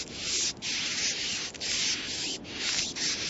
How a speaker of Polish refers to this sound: Bardzo dobrze, takie są, tak hałasują myszy, słuchajcie, w naturze.